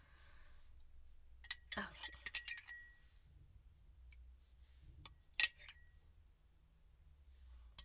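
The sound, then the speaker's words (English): A spoon clinks and rattles against a glass, stirring a drink mixed with spirit cleansing essence, in a few bright bursts. There is one sharp ringing tap near the end, over a low steady hum and faint background murmur. “All right, so we stir it one more time and we seal it with a kiss.”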